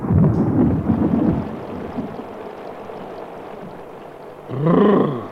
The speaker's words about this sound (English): Phew! It's terribly hot. There's a storm coming.